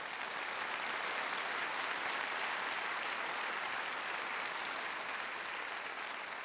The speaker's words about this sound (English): Everyone who receives this word, clap your hands.